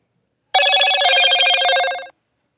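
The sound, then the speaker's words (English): A pastor's telephone rings with a rapid, trilling bell for about a second and a half, loud, then cuts off abruptly into silence. “And you never know when the pastor's phone's going to go off, right?”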